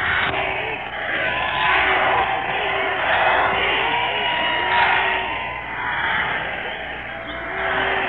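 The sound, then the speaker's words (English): A large crowd fills the air with a steady, loud roar of overlapping voices, people yelling for a speech from Mr. Chamberlain and hissing shushes to quieten the crowd, with no clear individual speech standing out. “Everybody's saying shush, trying to quieten the crowd”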